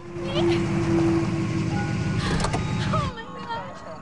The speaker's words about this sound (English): Outside, a patrol car pulls up when the officer hears a woman's pitiful cries.